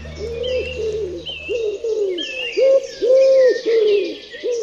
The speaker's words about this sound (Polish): I taką grupą ptaków są gołębie. No bo oto mamy w mieście możliwość spotkać trzy gatunki. To jest gołąb miejski, to jest sierpówka, zwana inaczej synogarlicą turecką albo cukrówką, i to jest grzywacz.